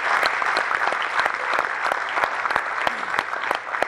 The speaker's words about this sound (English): Let's give those guys a round of applause.